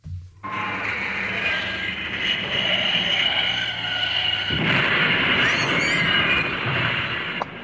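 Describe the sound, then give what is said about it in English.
A loud tractor engine rumbles and roars, a steady, gritty drone that grows rougher and more intense halfway through, with no voices. “straight into the path of an oncoming tractor. Shall see if I've got that sound effect.”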